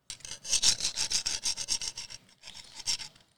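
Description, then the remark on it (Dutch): Crunchy, gritty footsteps of a person walking over sand and shells on a quiet beach, a quick steady series of steps, a brief pause, then a few more, with no voices. “Petra loopt over het zand en de schelpen.”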